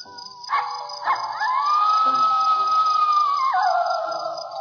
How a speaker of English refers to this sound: Probably just a coyote.